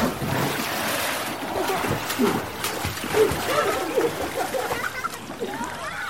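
splashing

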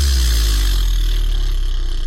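loud fart

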